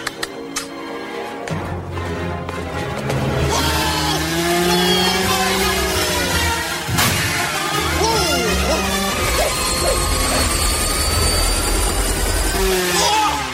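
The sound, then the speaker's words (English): A loud, steady engine roar with a droning whine fills the scene as a helicopter hovers over a helipad, with bursts of music and clattering effects layered over it. “The helicopter hovers over the helipad.”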